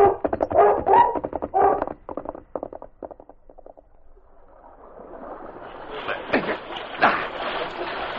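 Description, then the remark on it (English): A dog, King, barks amid a rush of splashing water that builds and grows louder, following a quick run of rhythmic thumping steps at the start, in a radio drama as the dog crosses toward the spot on the opposite shore where a horse had fallen. “He could hear the dog on the opposite shore, approaching the spot where his horse had fallen.”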